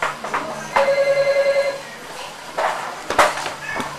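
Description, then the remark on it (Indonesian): A telephone rings with a rapid trilling burst lasting about a second, with brief voices and household noises around it. “Tuh telepon tuh.”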